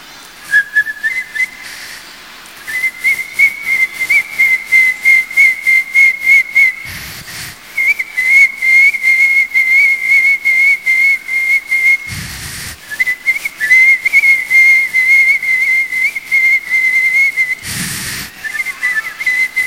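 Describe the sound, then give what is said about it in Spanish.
Someone imitates a cricket with a loud, high-pitched whistled trill that pulses rapidly and steadily. It runs almost continuously, broken only by a few brief breathy pauses, with no talking. “Canto de un grillo, esto es más potente. Y otro más grillo.”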